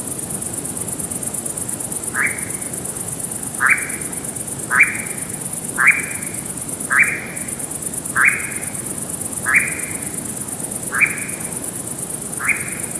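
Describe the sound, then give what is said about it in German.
A bird's monotone churring call, a steady unbroken buzz running throughout, with a regular series of about nine short, rising mid-pitched notes repeating roughly once a second over it. “Denn du hast dann zwischendurch, du hast dann das Schnurren, das Monotone, was wir jetzt schon kennen.”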